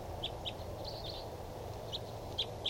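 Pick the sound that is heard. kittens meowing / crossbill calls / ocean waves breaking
crossbill calls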